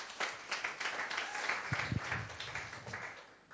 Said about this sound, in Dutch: Ik wil graag een applaus voor